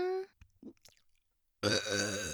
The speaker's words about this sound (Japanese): ゲップオナニー大好きなお前らは、私のゲップがいいの？それとも女のゲップなら何でもいいの？違うよね。お前らは私の下品でエロい生ゲップじゃないとダメなんだよね。